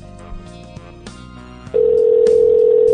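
A quick run of telephone keypad tones dialing a toll-free number for a Blockbuster video rental store, several short beeps in succession, then a steady loud dial or ringback tone holds to the end.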